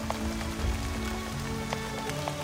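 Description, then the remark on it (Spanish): Steady rain falls continuously, a dense hiss of water with scattered sharper drops tapping on a surface, at a moderate, even level throughout with no voices. “Y entonces la lluvia empezó a caer.”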